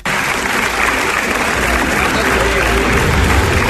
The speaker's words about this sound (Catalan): Aquesta és l'ovació de fins a 9 minuts, o pràcticament 10, que va rebre la pel·lícula després de la seva projecció, això sí, fora de concurs, a la sala gran del Palau del Festival.